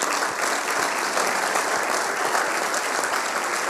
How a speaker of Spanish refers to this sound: Así que también un aplauso para ella.